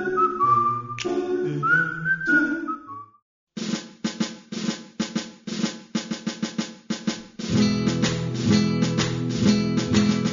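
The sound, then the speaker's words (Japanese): A whistled melody rises over soft, live doo-wop-style backing vocals, then breaks into short rhythmic, choppy chords before a fuller sustained chorus returns; bright and clearly audible. “ドゥーアップ風の生コーラスと口笛がシンプルだけど、なんとも味わいがありますね。”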